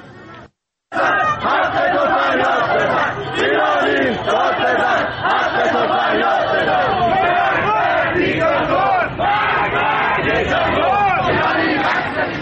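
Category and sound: crowd, protest crowd chanting slogans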